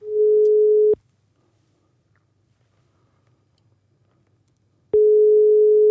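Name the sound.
telephone ringing tone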